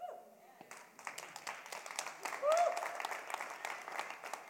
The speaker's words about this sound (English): That is an awkward church clap. I will not let that go. And here's why. I've seen you all at ball games. I've seen you at movies. I've seen you in orchestra play. You all go crazy elsewhere. And when you hear powerful news at church, you don't clap.